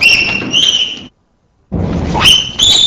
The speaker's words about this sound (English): Two examples of peep yelps, number 15 and 16.